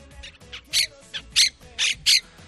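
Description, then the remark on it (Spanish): Harsh, grating squawks of monk parakeets, birds of Argentine origin invading Madrid, ring out in a rapid series of about six loud calls, with quieter chatter and background noise between them. “las 12.000 cotorras de procedencia argentina que están invadiendo Madrid”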